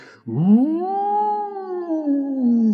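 A single drawn-out howl from an angry wolf swoops up sharply, then holds and slowly sinks in pitch for a couple of seconds, loud, with no other sounds around it.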